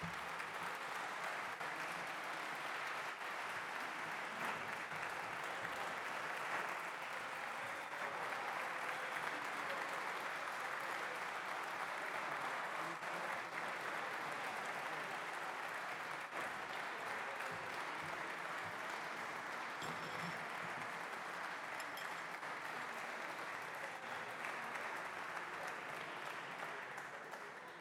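Sustained applause from the public gallery of a parliamentary plenary after a heated speech about Madeira, a dense steady clatter of many hands clapping at an even loudness for nearly half a minute, with no voices standing out.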